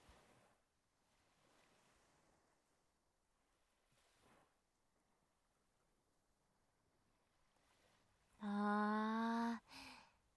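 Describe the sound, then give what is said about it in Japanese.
Soft, steady wash of ocean waves rolls faintly in the background until a loud, brief ship's horn blast cuts in near the end. No one speaks. “波の音っていいよね。”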